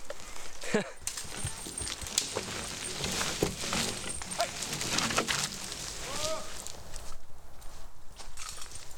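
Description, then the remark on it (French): A horse's hooves clop steadily on soft forest ground, a string of muffled irregular steps, with rustling and a few faint bird calls in the background. “Au niveau des contraintes du cheval, il y a quand même la distance à prendre en compte parce que c'est un être vivant, donc il marche.”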